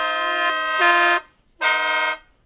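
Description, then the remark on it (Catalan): A rudimentary bird-shaped flute with a beak is blown in two loud, buzzy, horn-like blasts; the first holds a low note, then jumps slightly higher, and after a short pause a second steady note sounds. “És una mena de flauta... Com es diu? Ocell, flauta ocell, eh?”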